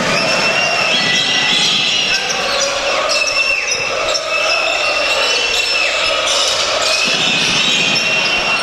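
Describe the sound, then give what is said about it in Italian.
A basketball thumps repeatedly against a hardwood court as Rossato dribbles during a Trento versus Scafati game, amid the steady roar of an arena crowd, with squeaks and murmurs filling the background. “Rossato, palleggio RS, tiro da tre, palla che danza sul ferro, un in and out, Baldwin.”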